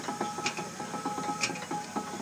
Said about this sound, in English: That's a good noise, isn't it? It's cogs going round. I can see that going round. Yeah. Lift my phone up there so it gets it higher. Can you hear a piston going in and out? Oh, yeah.